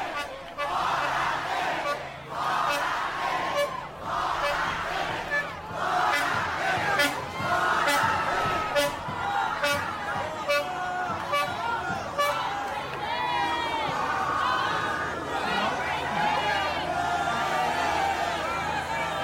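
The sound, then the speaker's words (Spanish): A large crowd at the house of Luis Ignacio Lula da Silva chants and shouts in rhythmic bursts as he greets them from his balcony. It is heard through a cell phone streaming from the balcony beside him. Voices rise and fall together, with occasional sharp horn-like toots and whistles cutting through the steady roar. “Está exactamente al lado de él, y lo que se está escuchando y lo que estamos siguiendo a través de la página de Facebook de Lula es una fuerte movilización popular”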